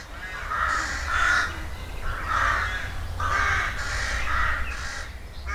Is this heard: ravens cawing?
yes